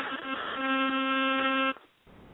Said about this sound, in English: I can hear a bee in the background. I don't know what that is. Like we're watching the Green Hornet, the old one.